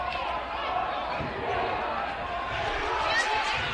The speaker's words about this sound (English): Student section's making noise. I love it. They're on each end zone here at Opelika High. Stands are full, standing room only. 360 around this place. This is as good of a high school atmosphere as it gets. It's a small gym, but a packed gym.